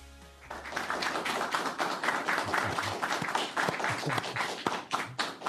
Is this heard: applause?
yes